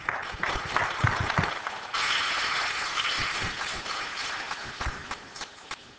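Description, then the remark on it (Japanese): An audience at a church applauds steadily to welcome a speaker, many hands clapping in a dense, crackling wash that swells partway through and then tapers off slightly toward the end, with no voices over it. “皆さん、拍手を持ってお迎えいたしましょう。”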